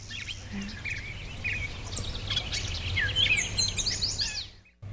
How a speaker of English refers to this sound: It was a yellow warbler. There, yeah, that beautiful clear, sweet, sweet, sweet, shredded wheat. That sort of thing. That's a yellow warbler. Okay. Bright yellow, beautiful bird.